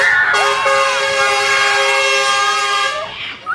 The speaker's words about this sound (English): A big truck drove by and honked their horn to show their support. Everyone wants them to do it again.